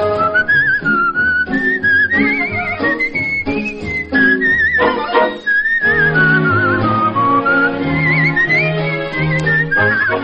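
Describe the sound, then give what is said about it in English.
A penny whistle plays a bright, lilting melody in a steady run of notes, loud, backed by a lower instrumental accompaniment, with no talking. “Just blow your penny whistle and the world begins to dance.”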